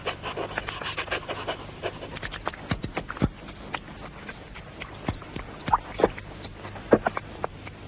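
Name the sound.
dog panting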